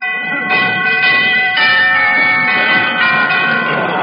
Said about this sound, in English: I'll ring the doorbell.